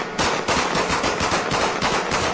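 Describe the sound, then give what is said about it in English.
Loud, rapid gunfire from the 2003 Frontline documentary Truth, War, and Consequences, recorded amid looting and not aimed at people: a steady stream of sharp cracks fired in quick succession like an automatic weapon, over a dense, noisy background with no one speaking. “But they weren't shooting at people in that clip, just so we're clear.”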